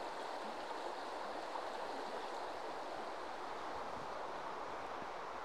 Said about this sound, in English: I always think there's something really quite therapeutic about walking next to a river. You get that lovely rushing, babbling sound of the water, the sound of the birds tweeting in the trees, and the odd bleat of a sheep or lamb in the background,